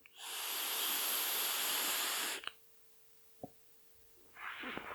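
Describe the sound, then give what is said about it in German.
Someone draws on an e-cigarette filled with a citrus, cereal and milk flavored liquid: a steady, airy hiss lasting about two seconds, a couple of soft clicks in the pause, then a second shorter inhale begins. No talking. “Die Dampfe wäre lauter.”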